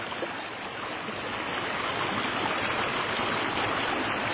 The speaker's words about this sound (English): And the creek coming down.